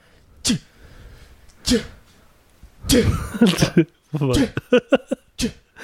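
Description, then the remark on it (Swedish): A voice imitates sneezing, a series of sharp 'achoo'-like bursts: two spaced ones, then a quicker rapid-fire cluster, with voiced vocal sounds between them. “För jag har också nyst.”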